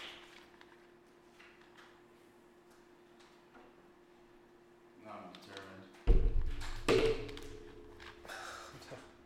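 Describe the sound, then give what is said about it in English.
A janky, rickety door scrapes and rattles, then slams shut with a heavy thud, followed by a few seconds of loose rattling and scraping as it settles. Faint tapping precedes it. “I gotta fix that door.”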